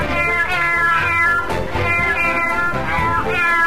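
A cat meows over and over, loud drawn-out wavering cries that rise and fall and run almost continuously into one another.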